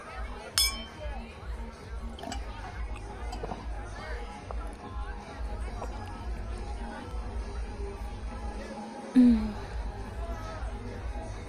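A single bright clink of glasses in a toast rings out near the start, then fades into a steady hum of crowd chatter over a deep, thumping low-end throb in a busy, packed nightclub, the biggest in the city.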